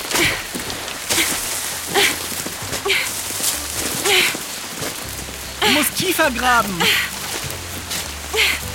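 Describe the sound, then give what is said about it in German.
Steady rain hisses and patters on the ground throughout, a constant wash of noise, while people talk over it as they dig a trench around a tent with a shovel in the cold. “Schneller der Regen.”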